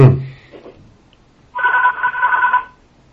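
A telephone rings once in a steady, buzzing electronic burst lasting about a second, clear, following a brief fading thump and murmur at the start.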